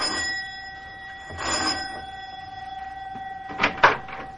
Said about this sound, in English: Both of them are worried now, as Mac presses the doorbell in answer to the professor's elated phone call.